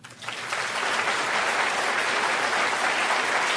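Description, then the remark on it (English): An audience breaks into applause for State Representative Juan Mendez of Arizona. The clapping swells within the first half second and then holds as a steady, dense wash, with no voices rising above it. “So applause for State Representative Juan Mendez of Arizona, who's under 30, and amazing to see him speaking out for free thought so courageously, and for our secular constitution.”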